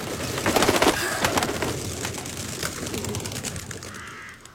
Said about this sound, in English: Hey! A man. Looks like a poor man being attacked by crows.